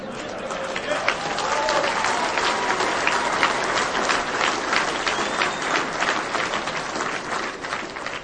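A large audience claps steadily for several seconds, a dense, even wash of hand claps that holds at a constant loudness throughout with no voices standing out.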